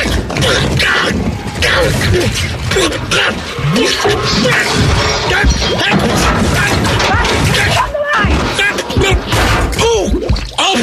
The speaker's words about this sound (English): Oh, my God, I hear a car coming. Oh! It knocked me over. The toilet is rolling. I'm going down the hill. Oh, my God, she's rolling down the hill.